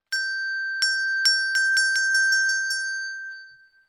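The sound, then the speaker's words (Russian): A small bright bell rings alone, struck about nine times in a quickening jingle, its clear high tone sustaining throughout before slowly fading out at the end. “Подошел волк к дереву, позвонил в колокольчик. Колокольчик и зазвенел.”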